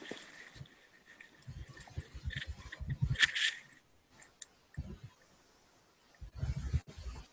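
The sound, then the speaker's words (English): Irregular bursts of soft clicking keystrokes on a computer keyboard as someone types up a comment on a ticket, coming in quick clusters with short pauses between, fairly quiet, with no voices. “I'm typing up a comment on the ticket.”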